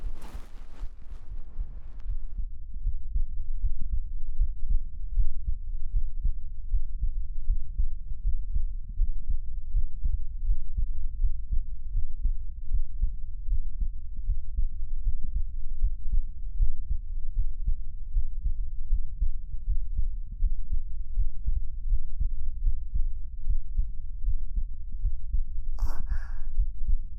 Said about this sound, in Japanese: 私、ドキドキしてるかな。